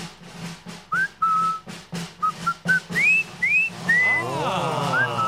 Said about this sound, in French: pof, ils savent pas siffler